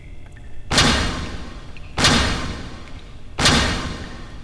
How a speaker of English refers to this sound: As the door opens, Mrs. Rourke's determined stride is broken by the sight of Dean Gates